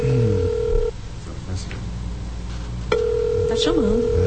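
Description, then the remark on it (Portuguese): A telephone ringback tone sounds through the line as a call is placed: a steady buzzing burst, a two-second pause, then another long burst, with faint voices murmuring in the background. “Tá chamando.”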